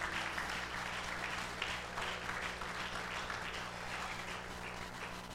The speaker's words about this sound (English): Come on, somebody give the Lord a hand clap.